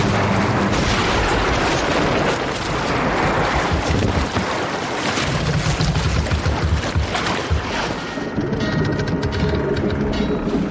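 A shark jumps onto the stern of a boat: a heavy, churning crash of water as it lands, loud, with sustained splashing and wind roar and no talking.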